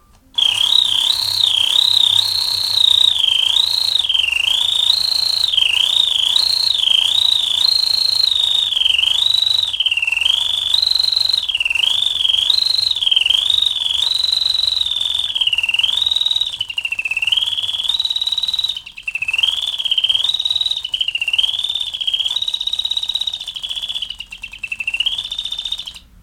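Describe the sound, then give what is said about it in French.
A French wind-up singing magpie toy gives a thin, whistling warble that loops continuously for nearly half a minute, rising and falling in a steady, repetitive pattern, with a faint mechanical hum beneath. “Bel oiseau chanteur, ça.”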